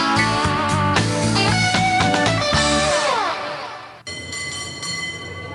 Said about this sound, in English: A little bit of cable car sound there.